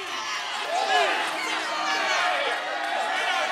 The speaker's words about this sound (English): Finally, Kevin stands and walks out. The crowd begins to clap.